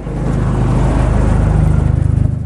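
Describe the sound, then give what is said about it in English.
A car with red and blue lights flashing on top picks up speed on a road, its engine accelerating with a loud, steady low rumble, its pulsing harmonics rising slightly in pitch as the revs climb, with no voices over it. “Jim picks up speed.”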